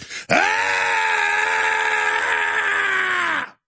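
A man lets out one long, loud freedom yell, held steady for about three seconds with a slight downward slide in pitch before cutting off abruptly. No other voices or sounds around it.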